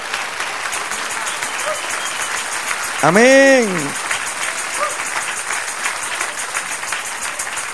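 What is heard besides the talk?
audience applauding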